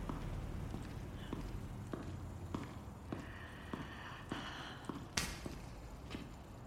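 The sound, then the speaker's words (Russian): Steady footsteps of a woman walking forward across a hard floor in a dark covered parking garage, about a dozen evenly paced hard-soled steps at moderate loudness over a low background rumble, with no talking. “Она потирает руки и идет вперед.”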